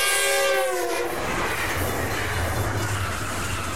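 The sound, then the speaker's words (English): A loud train horn blares with harmonic tones, then a fast-moving train roars past at the Doran Street crossing on San Fernando Road, its rumbling wheels and rushing noise filling the rest with no voices. “stand here just for a few minutes at the Doran Street crossing and watch the propane trucks, 18-wheelers, concrete trucks, as well as cars scurry as fast as they can over San Fernando Road to beat the fast-moving trains.”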